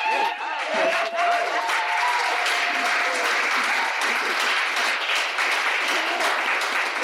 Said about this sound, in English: Another round of applause.